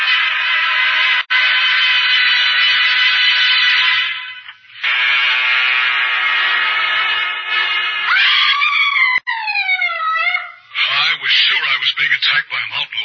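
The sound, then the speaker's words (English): A woman screams loudly and at length in a cabin with rain pounding on the roof, throwing herself on the floor; a shrill, sustained shriek with a brief break partway through, ending in wavering, sliding cries that rise and fall. No one speaks. “It was Polly who screamed and thrown herself on the floor by my side.”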